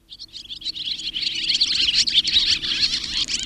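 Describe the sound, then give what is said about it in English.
Swallows twittering busily, a dense, continuous chatter of high, rapid chirps that builds in loudness over a few seconds, with no voices present. “Strung out like musical notes on a stave, you often see swallows gathering at this time of year on telegraph wires before their long journey south.”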